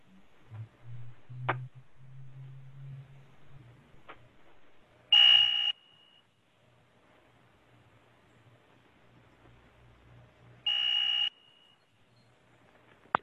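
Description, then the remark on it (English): A bus alert tone sounds twice, each a loud, high-pitched buzzing beep lasting about half a second, spaced roughly five seconds apart over a low rumbling hum with occasional clicks. “Okay, so we don't want anything exactly like the doors, but the sounds for the doors are much more pleasing than, at the very least, what was on the bus.”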